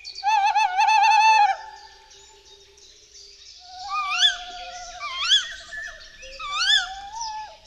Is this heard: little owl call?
yes